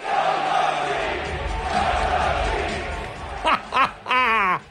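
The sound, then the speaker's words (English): A large arena crowd at a Knicks basketball game on Wednesday night roars steadily, then breaks into a loud three-beat chant of 'sell the team': two short shouted syllables followed by a long, drawn-out final note sung in unison. “They're yelling, sell the team.”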